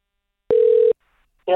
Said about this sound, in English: The excitement builds. Oh, it's ringing. That's always good.